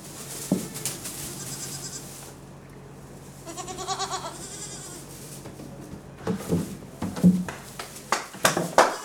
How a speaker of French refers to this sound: Donc là, ça, c'est nos chevreaux. Voilà, ça, c'est les derniers nés.